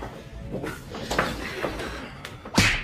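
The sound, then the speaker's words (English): An exaggerated kung fu movie style punch-in-the-face sound effect: a few soft knocks and thuds, then one loud, sharp smack near the end, over faint background noise. “80-yard punch in the face sound effect from a kung fu movie”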